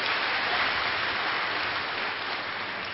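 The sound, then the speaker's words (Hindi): A crowd claps for themselves together in a dense, steady wash of applause lasting the full three seconds, fairly loud and even, easing off only slightly toward the end, with no voices over it. “वाह, ताली बजाओ फिर तो अपने लिए।”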